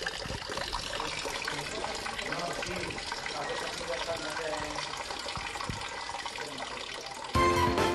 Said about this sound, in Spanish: Aquí me quedo con el sonido relajante de esta fuente, la del interior, sí, la de la tienda.